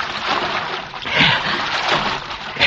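Steady watery splashing and sloshing of someone wading back along a creek bottom at night in spotty moonlight, with a few louder splashes standing out, continuous with no voices.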